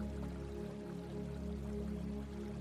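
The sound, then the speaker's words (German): A small river babbles softly and steadily throughout, a quiet continuous trickle with a low sustained hum underneath and no voices. “Neben dir hörst du das Plätschern eines kleinen Flusses.”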